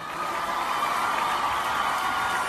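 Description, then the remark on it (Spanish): Sustained crowd applause for President Díaz-Canel, who is present among the people, a dense steady roar of clapping with scattered cheers and whoops, loud and even throughout with no break. “Aplauso para nuestro presidente Díaz-Canel, que se encuentra aquí.”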